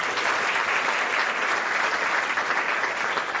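A crowd applauds steadily for a few seconds, a dense, even wash of many hands clapping at once with no voices standing out.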